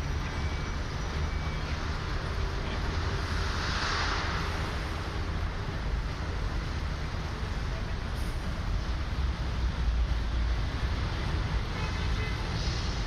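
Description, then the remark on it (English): A quiet Trafalgar Square in London with a steady low hum, as an occasional solitary car passes through. No voices, no crowd, just sparse traffic. “Again, usually full of the sound of people and traffic and music and general mayhem, but now, what, just a few solitary cars.”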